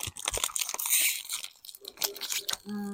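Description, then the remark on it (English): A snack wrapper of gingerbread sticks being torn open: a burst of bright, crinkly plastic rustling and crackles over a few seconds, ending with a brief steady tonal hum. “It rips like pocky. Well, it didn't rip very clearly.”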